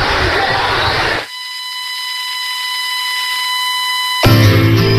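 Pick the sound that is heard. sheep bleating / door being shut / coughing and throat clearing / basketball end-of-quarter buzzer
basketball end-of-quarter buzzer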